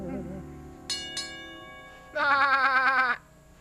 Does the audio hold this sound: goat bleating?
yes